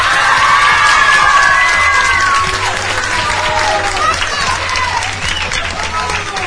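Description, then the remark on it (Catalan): Student supporters of the Institut de Palamós, a finalist school in the 2024 contest, cheer and shout loudly over steady clapping, with high excited whoops rising above the din throughout, sustained for several seconds before easing slightly. “I ara escoltem els aplaudiments de l'Institut de Palamós.”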